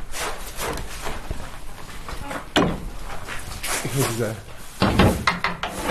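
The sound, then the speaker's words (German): A large old key rattles and clunks in the heavy lock of the castle gate at Burg Friedland, followed by a low creak and more metallic knocks as the gate is pulled open, fairly loud. “Wenn man quasi das Burgtor aufmacht, man hat einen großen alten Schlüssel, der, glaube ich, auch seit dieser Zeit existiert, als diese Tür hier reingemacht wurde.”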